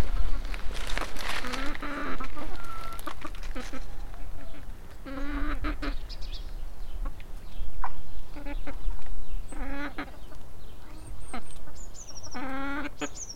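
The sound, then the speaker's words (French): Several chickens cluck and squawk in short, repeated bursts in the henhouse shared by the village of Miscon, with a steady outdoor background hum throughout. “Voilà la famille poule. Poulet plutôt.”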